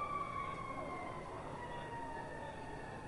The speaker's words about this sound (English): And we hear the siren in the distance.